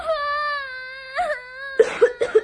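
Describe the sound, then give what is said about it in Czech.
A baby wails in a long, high, drawn-out cry, then breaks into three or four sharp coughs in quick succession, choking on pepper. “Jestli se to mimino hned nedostane na čerstý vzduch, určitě se pepřem udusí.”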